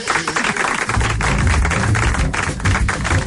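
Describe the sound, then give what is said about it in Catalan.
A crowd claps steadily for a few seconds, a dense, crackling patter of many hands with a low rumble rising beneath it partway through. “Mira, un aplaudiment.”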